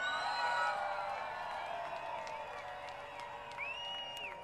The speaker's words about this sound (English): Thank you so much for coming out tonight. Give it up one more time